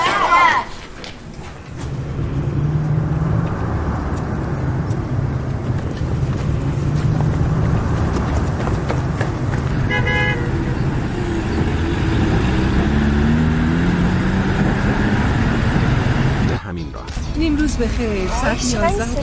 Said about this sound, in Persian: ساعت 11 این موقع روز باید انقدر ترافیک باشه